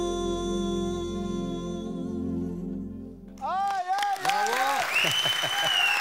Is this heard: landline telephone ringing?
no